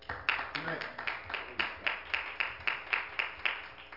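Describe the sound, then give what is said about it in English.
A crowd claps hands in praise of God in a steady, rhythmic beat, sharp evenly spaced claps, with a brief murmur of voices near the start. “If you love him, give him a hand clap of praise.”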